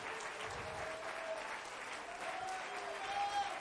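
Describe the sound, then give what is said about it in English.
An audience claps their hands to God in praise, a dense, steady wash of applause that holds at an even loudness throughout, with faint tonal hints of voices or music rising underneath. “If you love him, clap your hands to him.”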